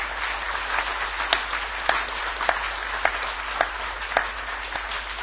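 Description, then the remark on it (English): An audience claps together for the six Goswamis of Vrindavan in sustained, steady applause for about five seconds, a dense crackle of many hands with a few sharper individual claps popping out, with no voices heard. “Let's give a hand of applause to the six Goswamis of Vrindavan.”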